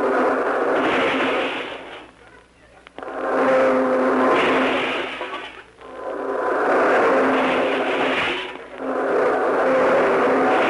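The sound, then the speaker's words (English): A car engine revs up and eases off in repeated cycles, roughly every three seconds, as the car maneuvers back and forth out of a very small parking space between two other cars. The motor sounds fairly loud, with no voices. “Well, my car is parked in a very small space between two other cars, but don't worry, I'll get out.”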